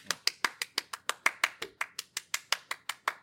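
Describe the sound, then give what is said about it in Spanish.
Steady, rhythmic hand clapping welcoming ChatGPT, about six sharp claps per second at an even pace for a few seconds, fairly loud with no voices over it. “Así que hoy tenemos con nosotros, que reciban con un fuerte aplauso, a ChatGPT.”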